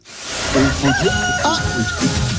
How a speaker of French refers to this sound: David, t'as un coq à côté de toi?